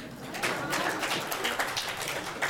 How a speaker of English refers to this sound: Good answer. Very, very good. Big round of applause.